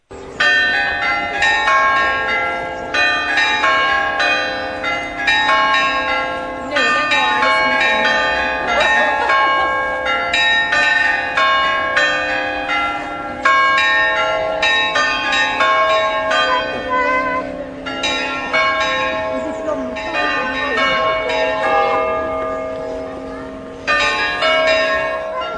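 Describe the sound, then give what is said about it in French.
Church bells ring continuously in a street, a dense, overlapping peal of repeated strikes with bright ringing overtones, while faint voices, including children, murmur beneath. “On va écouter un autre extrait sonore. Alors c'est pris dans la rue, donc on entend aussi des voix et même des enfants, je crois.”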